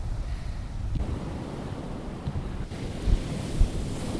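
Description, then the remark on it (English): Surf washes steadily onto an island beach with a low, rumbling roar, mixed with gusty wind buffeting the microphone and a couple of brief thumps near the end. No one speaks. “But first, we just arrived, so before we can drink anything, we have to go in the water for a swim.”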